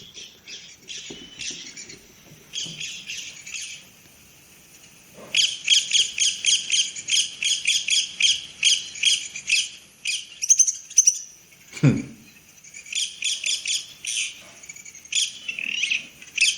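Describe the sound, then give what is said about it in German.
Rapid, repeated high-pitched bird calls, played back from a recording, chatter in loud bursts with short pauses between runs and a brief low thump midway; no one speaks. “Hast du den Ruf denn jetzt da? Mal, ja, ich lass mal laufen.”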